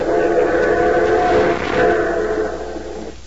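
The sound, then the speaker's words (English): A train pulling into a station rumbles in steadily with a dense mechanical roar and a faint whistle-like tone, the noise holding loud for a few seconds before easing off as it slows. “The Aces are nearly home, and Neil is at the station to meet them when they pull in”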